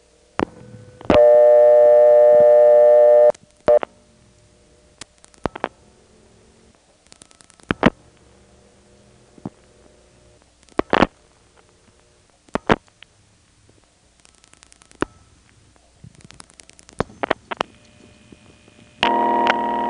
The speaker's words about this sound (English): First, we'll pick up a phone. Now, the phone is in 237-243, the step. And we'll dial a ringing number within the step.